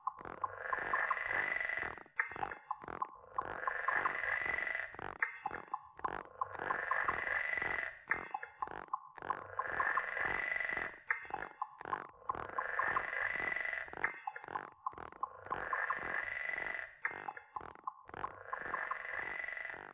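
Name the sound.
frog calling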